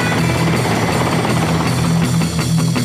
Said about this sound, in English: Then I looked in the mirror and saw something coming. I thought it was a plane by the way it was humming. I'd been caught by a helicopter in the CHP.